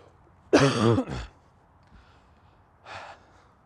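A harsh cough from a person out of breath on a walk bursts out and trails off in a rough, throaty rasp, followed a couple of seconds later by a softer, breathy exhale, otherwise quiet.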